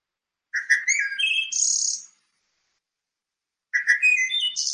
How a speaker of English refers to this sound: So I'm going to play you the wood thrush song. I'm sure many of you have heard this and are hearing it perhaps daily now.